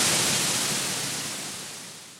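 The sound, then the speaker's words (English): A burst of harsh radio static on a holocom transmission as the holograms flicker, a dense crackling hiss that starts loud and steadily fades away over about two seconds, with no voices. “The rest of her words were lost in a crackle of static, as the holograms flickered and nearly vanished.”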